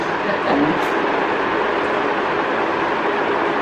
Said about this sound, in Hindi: अरे मेरा घर के ऊपर हेलीकॉप्टर जा रहा है, मेरा हेलीकॉप्टर नहीं।